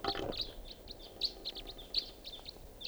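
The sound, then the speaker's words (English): A flock of about five crossbills flying over and circling, giving a scattered series of short, high, sharp call notes at an irregular rhythm, fairly faint over a soft background hiss. “Sounds like a flock of crossbills flying over here.”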